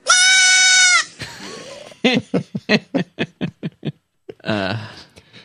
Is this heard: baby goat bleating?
yes